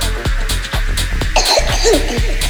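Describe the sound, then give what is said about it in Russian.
A rapid series of harsh coughs, several in a row with short gaps, sounding forced or acted, over a steady low background tone. “То я кашляю.”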